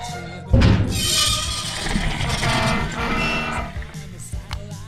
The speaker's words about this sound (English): Opening engine intake.